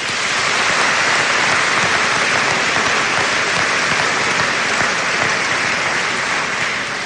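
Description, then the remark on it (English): Steady, sustained audience applause for a final group of Fort Recovery award and grant recipients fills the whole stretch, a dense loud wash of many hands clapping at once with no pauses or voices rising above it. “Please join me in giving this final group a round of applause.”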